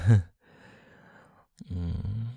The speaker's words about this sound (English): You're breathing heavier.